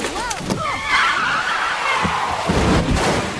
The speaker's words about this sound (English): Kay's car skids across the road, through the safety barrier, and into the river below. The car lands on its roof and sinks.